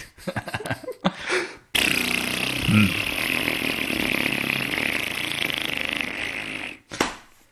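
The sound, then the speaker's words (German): Someone imitates farting with their voice: a long, raspy, sputtering blast held for about five seconds, fairly loud, with a few short vocal noises just before it. “Der Traum bestand nur aus dieser Family Guy-Szene, wie ich angefangen habe und nicht aufhören konnte zu furzen.”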